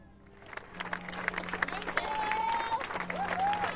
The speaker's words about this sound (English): The applause was for the police, the fire crews, the people whose fast action had saved lives.